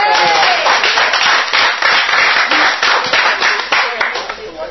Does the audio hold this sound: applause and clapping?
yes